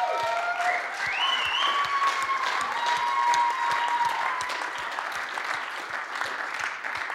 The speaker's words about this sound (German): Aber ihre Story mal so richtig zu hören, das ist wirklich wunderbar. Und darum geben wir ihnen einen herzlichen Applaus